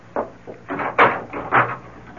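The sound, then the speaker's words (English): A door is opened and shut as someone lets themselves out, a short run of clunks, rattles and scrapes with a heavier bang near the middle, and no voices. “No, don't bother to come to the door. I'll let myself out.”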